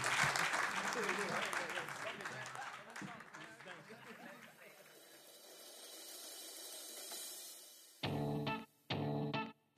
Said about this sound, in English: Thank you all for joining us, and please give a round of applause to everyone here.